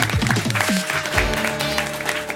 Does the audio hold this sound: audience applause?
yes